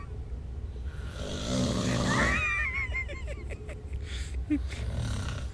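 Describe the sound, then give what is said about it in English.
Loud, rasping snoring with a heavy rumbling low end, swelling in intensity through the middle, then a few sputtering, gurgling breaths as it trails off. “God, sounds like it's cutting a log.”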